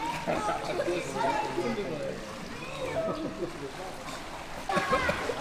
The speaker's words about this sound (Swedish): Oh, nu skvätter det. Du slog ihop händerna så du skvätter lite i min mikrofon också.